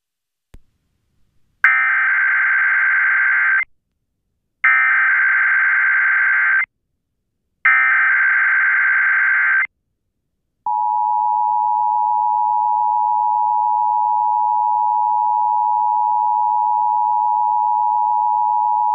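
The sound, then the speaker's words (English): An emergency alert system test tone broadcast on the International Children's Arts Network: three loud, buzzy bursts of about two seconds each with short gaps, then a single unbroken high-pitched tone that holds steady to the end. No one speaks. “The following is a test of the emergency alert system.”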